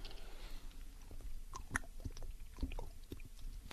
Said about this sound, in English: Boy, did I need this right now, because I am about to lose my voice, I think. So let me just take a little swig of this water.